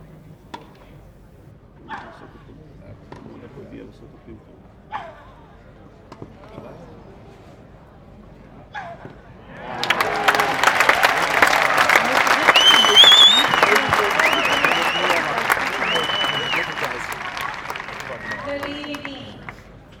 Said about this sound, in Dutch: De enige partij die Venus Williams ooit in Nederland speelde tegen …. En hier, dit is tegen het eind van de partij waar ze nog een paar prachtige punten maakt. In ieder geval volgens het publiek.